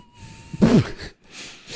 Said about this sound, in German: Fuck, meine Nase pfeift.